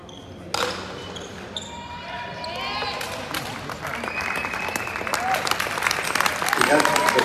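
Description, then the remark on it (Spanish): Applause and crowd noise for the female athletes after Mexico's team won build steadily for several seconds, with sharp bright transients and a few high whistle-like tones, growing louder toward the end while voices mingle underneath. “Fuertes aplausos para las atletas.”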